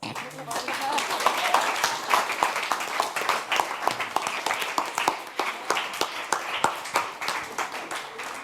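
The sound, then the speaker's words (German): A crowd bursts into sustained applause for mentees, dense rapid clapping from many hands at a steady, fairly loud level for several seconds, with a murmur of voices mixed in. “Wir danken unseren Mentees und bitten um einen großen Applaus.”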